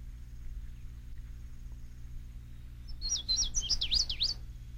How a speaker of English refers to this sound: The recorded material is, of course, the wonderful sounds of bird songs. Not all birds are singers, but Indian Springs offers a bird sanctuary with a large variety of songbirds. For example, the one you are hearing now